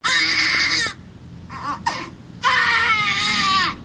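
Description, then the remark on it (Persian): Newborn babies, born addicted to drugs because their mothers used narcotics during pregnancy, cry loudly: two long high-pitched wails separated by a short pause, with a couple of brief whimpering cries in between. “اینها اطفال هستند که مادرانشان در هنگام حاملگی از مواد مخدر استفاده می‌کردند و این نوزادان نیز معتاد به دنیا آمدند.”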